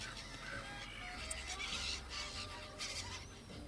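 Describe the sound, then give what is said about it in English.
Birds chirp in short, scattered bursts over a steady outdoor background hum, fairly faint, with no one talking. “These birds are probably not doing good for the recording.”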